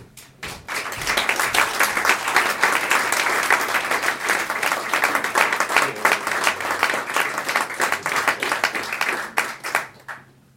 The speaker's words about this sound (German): Begrüßen Sie mit mir, mit einem dem ersten in nichts nachstehenden Applaus